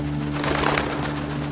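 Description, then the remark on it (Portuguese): A dove coos softly in a low, steady, throaty hum, a sustained murmuring call with a faint airy rustle over it, heard alone without any voices. “E o Espírito Santo desceu na forma de uma pomba sobre ele.”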